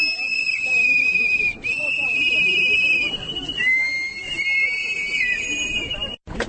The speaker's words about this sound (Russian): Митингующие после соревнования повернулись лицом к Пражскому граду, начали свистеть и выкрикивать лозунги.